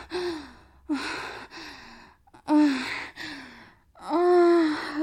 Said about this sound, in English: Oh god. I'm breathing. Oh my god. It's so fucking nice.